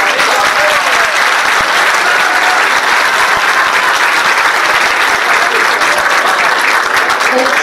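Sustained, loud applause from an audience for a motivational speaker being introduced, a dense wash of many hands clapping steadily for several seconds without pause or voices.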